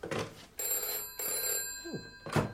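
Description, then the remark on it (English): A telephone bell rings in repeated bursts, a bright metallic trill that carries through the whole moment, with a few soft knocks and rustles around it and no one speaking. “Might as well put the phone back on.”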